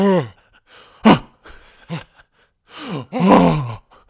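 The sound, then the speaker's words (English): A voice acts out a series of husky gasps and strained groans, several short breathy bursts, then a longer, louder throaty one near the end, fairly loud with no words. “A husky gasp was heard from the throne next door.”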